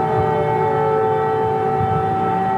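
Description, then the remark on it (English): An air raid siren in Kyiv, Ukraine, drones on with a steady, penetrating wail, holding one sustained pitch throughout, carried over low city rumble in the background with no voices. “Siren sound in Kyiv.”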